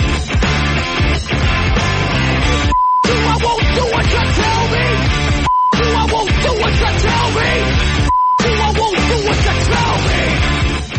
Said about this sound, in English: Notice that beeping noise? That's partly bourgeois, fascist, middle-class, Nazi, government-controlled censorship. But also, I think gives it a real nice sort of rave feel as well.